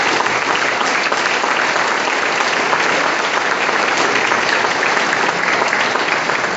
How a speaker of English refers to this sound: Before we pray, I want to ask all the veterans to please raise your hand again one last time. Let's give them one last round of applause.